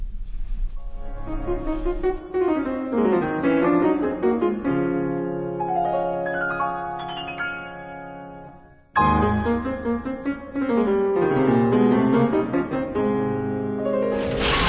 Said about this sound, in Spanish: Bien, vamos a hacer un breve corte musical y regresaremos. Quédense con nosotros.